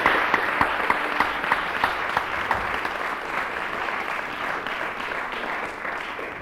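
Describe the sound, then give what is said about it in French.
An audience claps steadily for musicians entering the stage, first violinist Guillaume Sutre and Marc Copé: a dense wash of many hands with a few sharper individual claps standing out early on, sustained at an even moderate level for several seconds without any voices. “Je propose qu'on les applaudisse.”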